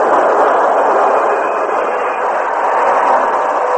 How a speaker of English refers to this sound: At 6 o'clock, the train reached Richland.